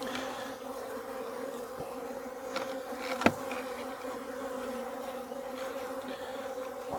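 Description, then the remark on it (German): A dense, steady drone of many worker honeybees buzzing together at an open hive during a hive inspection, a continuous humming swarm with one brief sharp click partway through and no voices. “Das heißt, dass die Bienen, die Arbeiterinnen, Platz halten im Honigraum.”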